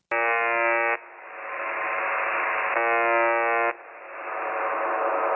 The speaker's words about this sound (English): So if you go to this, signal and you start listening to it, it's just this loop of this buzzer sound and it's fucking bizarre. So here's what it sounds like.